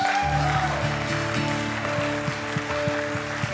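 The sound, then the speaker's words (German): A church audience applauds Jesus during worship in a steady, dense wash of clapping, while sustained keyboard chords hold underneath throughout. “Geben wir Jesus einen Applaus.”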